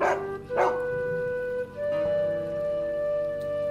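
A dog gives two quick, close barks, then lets out a long, steady, high-pitched whine that carries on to the end. No one speaks.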